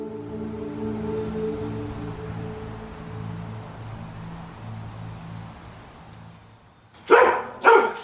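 Two sharp, loud barks from a restless dog burst out near the end, following several seconds of low, steady humming tones with no talking.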